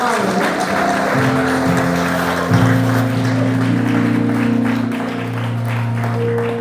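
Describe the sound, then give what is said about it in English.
An audience gives a clap of praise, clapping steadily and loudly for several seconds, a dense wash of hand claps over sustained low organ or keyboard chords that shift partway through. “Your clap of praise should be better than that.”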